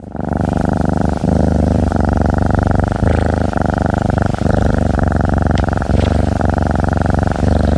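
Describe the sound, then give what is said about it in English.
A healthy, well-cared-for cat purrs loudly and steadily, a deep continuous rumble with a slow pulsing rhythm as it breathes in and out, with no other sounds around it. “That's the sound of a healthy, well-cared-for cat.”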